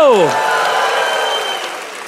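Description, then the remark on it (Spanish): An audience bursts into loud, sustained applause for the Lord, with voices cheering and shouting over the steady clapping throughout. “Yo daría un aplauso al Señor, yo daría un aplauso fuerte y dará un grito de júbilo.”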